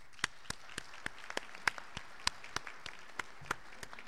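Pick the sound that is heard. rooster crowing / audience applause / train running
audience applause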